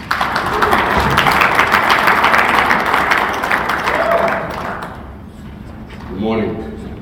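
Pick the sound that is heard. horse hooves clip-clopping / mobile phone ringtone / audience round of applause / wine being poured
audience round of applause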